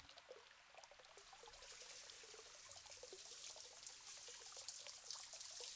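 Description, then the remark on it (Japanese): A shower is turned on in a bath washing area, its water spraying steadily in a continuous hiss with scattered splashing droplets, moderately loud, swelling slightly after the first second. “そうしたらシャワーを出しまして”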